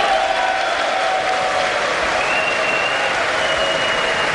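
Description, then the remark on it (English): A large audience stands and applauds loudly and steadily after a speech line calling for an end to illegal immigration, a dense wash of clapping with cheers and whistles rising through it, sustained without a break. “Everybody stands and cheers.”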